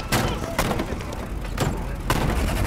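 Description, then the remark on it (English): Four sharp gunshots tear through a bedroom at irregular intervals, each a loud, booming crack over a steady low rumble, with no one speaking. “When all of a sudden, shots tore through their real bedroom. The gunfire lasted a while.”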